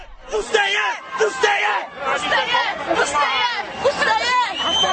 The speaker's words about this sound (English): The crowd is shouting, "Let them in, let them in." In other words, calling on the riot police protecting the Roma to let the skinheads attack them.